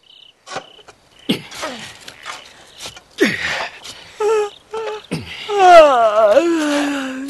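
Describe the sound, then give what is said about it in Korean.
A person yawns: a few breathy gasps and sighs, then a long, drawn-out vocal moan that rises and falls at the end, with no talking. “하품이라는 걸 어쩝니까?”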